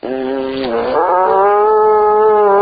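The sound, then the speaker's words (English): A horn blown with buzzing lips gives one long, loud, reedy blast that wavers and slides slightly upward after a moment, then holds a steady tone to the end, with no talking. “See, it's not so much the air going through as it is the buzz.”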